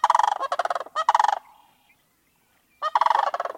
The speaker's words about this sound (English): There were increases in the populations of birds that use woodlands and wetlands, including the charismatic sandhill crane.